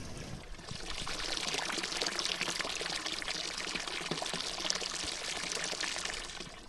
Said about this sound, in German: Und habt ihr es erraten? Wir sind beim Kirchplatz vor der alten Kirche bei einem Wasserbrunnen.